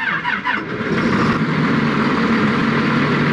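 A red tractor engine runs during a road blockade protest in Serbia, a loud, steady mechanical rumble that rises briefly at the start, then settles into an even, continuous drone with no voices.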